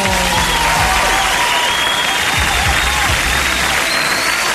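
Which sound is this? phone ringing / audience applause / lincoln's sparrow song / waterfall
audience applause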